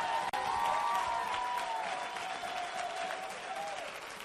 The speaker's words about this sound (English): Oh, clap your hands like you want to go, somebody.